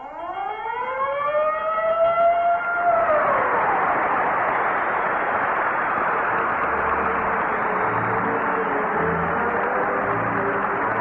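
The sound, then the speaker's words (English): A loud siren, the Texaco Fire Chief siren and bell signal, winds up in pitch over the first few seconds, then gives way to a steady, roaring wash of noise that continues to the end, with no voices. “And remember, whenever you hear the siren and bell, think of Texaco.”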